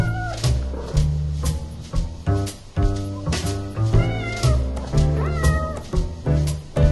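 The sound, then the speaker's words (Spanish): A cat meows several times in drawn-out, rising and falling calls, set over a steady, rhythmic musical backing with a deep bass pulse throughout. “Como también es interesante lo que le pasa a nuestro gatito cuando tropieza porque se cree que nunca se puede caer.”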